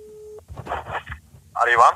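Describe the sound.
A short, steady mid-pitched telephone ringing tone from an outgoing call made on behalf of ICA-handlarna sounds once and cuts off, followed by people talking over a phone line.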